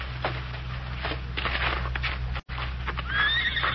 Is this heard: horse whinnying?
yes